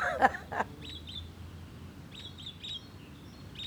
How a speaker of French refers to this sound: Des oiseaux.